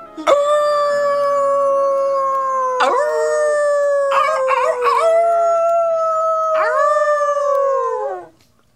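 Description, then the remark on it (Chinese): Mournful wolf-like howling from the twin brothers Romulus and Remus, several long overlapping howls that rise and slowly sag in pitch, loud, sustained for about eight seconds before fading, with no talking. “罗马拉斯和雷摩斯两兄弟得知自己悲惨的身世，不禁发出了一串串野狼般凄厉的吼声”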